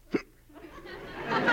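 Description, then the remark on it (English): A single sharp hiccup pops out near the start, followed by a soft, rising murmur of voices and breathy noise that grows a little louder toward the end. “I can't sleep while you're hiccuping like that.”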